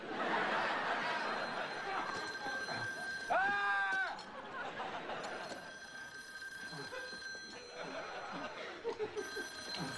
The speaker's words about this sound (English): I'm trying to answer the phone. I can't concentrate with all this ringing.